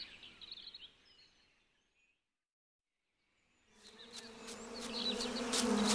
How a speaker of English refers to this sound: Oh, wasps!